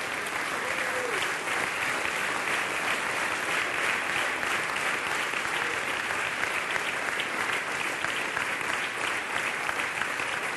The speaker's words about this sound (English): Would you lay your Bible down and give the Lord a big hand clap in the house?